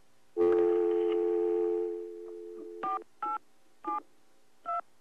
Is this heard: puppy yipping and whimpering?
no